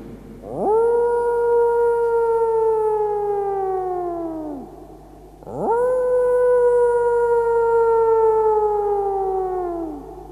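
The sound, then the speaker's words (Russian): Two long, drawn-out howls from outside the window, made by Latvian riflemen, one after the other, each swelling up sharply and then slowly sliding down in pitch. Loud, with no voices. “А ведь это латышские стрелки воют, которых ты кастрировал, чтобы они больше не размножались.”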